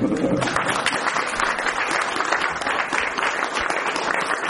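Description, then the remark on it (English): A crowd applauds a man for being married 27 years, many hands clapping in a dense, sustained wash of sound at an even loudness for several seconds. “Nowadays, people deserve a clap for that.”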